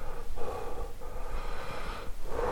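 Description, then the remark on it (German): Slow, deep breaths drawn in and let out in long, airy phases with brief pauses between them, fairly quiet, with no talking. “Es ist relativ leise, ja. Es ist ein tiefes Atmen.”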